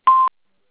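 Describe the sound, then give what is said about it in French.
A single short electronic beep from an automated phone line prompting the caller to say or type an account number, at a steady mid pitch, clean and fairly loud, lasting about a fifth of a second before cutting off into silence. “Après le bip sonore, merci d'énoncer ou taper votre numéro de compte ou contrat, chiffre par chiffre.”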